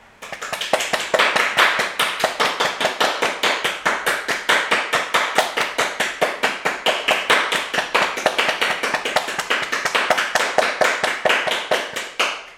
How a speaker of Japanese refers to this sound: 心からの感謝を今日も拍手を持って表したいと思います。ご一緒に拍手をしましょう。